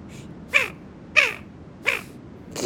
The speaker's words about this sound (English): Winter calls. I'm going to use this to say hi, and we'll see if any of the birds on my call keychain will say hi back. Okay, first one. Here's the call of a Barrow's Goldeneye.